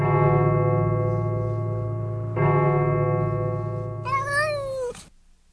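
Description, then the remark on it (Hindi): A cheetah cub gives a loud, cat-like shriek: a long, steady yowl that breaks into a higher, wavering squeal before cutting off. No other sounds. “बिल्ली जैसी चीख, डॉक्टर घोषाल का चीते का बच्चा होगा।”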